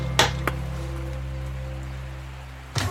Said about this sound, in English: He's even got a really nice knocker, listen to that.